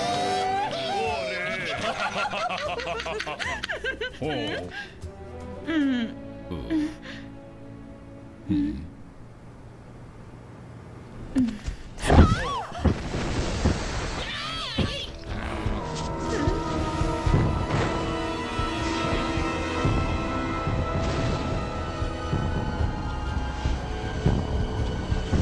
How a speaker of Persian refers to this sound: او نه ترسین بچه ها، این فقط یه خورده آب داغ و بخار همین.